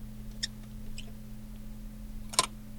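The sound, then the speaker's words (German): Squeaking from an old Zeiss Icon Box Tengor box camera, a historic leather-covered tin box: two faint, short high-pitched squeaks followed by a louder, sharper squeak near the end, over a steady low hum with no talking. “Das ist eine Zeiss Icon Box Tengor. Also eine alte, wirklich historische, mit Leder beklebte Blechbox im Prinzip.”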